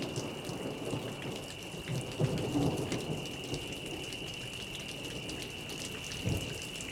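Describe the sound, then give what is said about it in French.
Steady rain pours down as a dense, continuous hiss, with low rumbles of thunder swelling briefly near the start and again toward the end. A faint high insect-like whine runs throughout. “Imaginez les insectes qui jacassent pendant les chaudes soirées d'été, puis l'automne, la pluie, le vent et tous les animaux de la ferme.”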